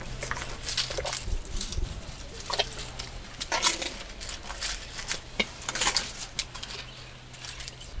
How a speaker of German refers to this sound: Eine ausgewachsene Elefantenkuh, fast 3 Meter hoch, steht praktisch neben mir, nur durch die Zeltwand getrennt. Ich höre sie schnaufen und kauen.